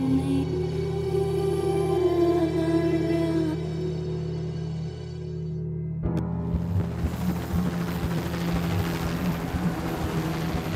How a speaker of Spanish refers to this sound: vi como el helicóptero del 112 se llevaba el cadáver de Bartomeu Solé